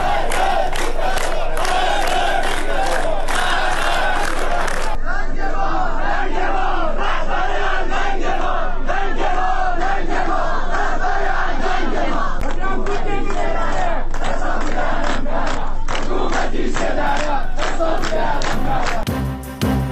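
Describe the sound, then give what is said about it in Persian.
A large protest crowd chants and shouts loudly in rhythmic bursts during the funeral ceremony of Mahsa, the voices massed and sustained for the whole stretch, with a sudden shift in tone around the midpoint before the chanting carries on. “اعتراضات همزمان با مراسم خاکسپاری مهسا.”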